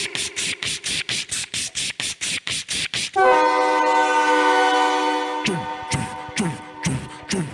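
A train rattles past with a steady, rhythmic clatter of wheels, then a loud, sustained horn blares for about two seconds over the noise before the clacking returns.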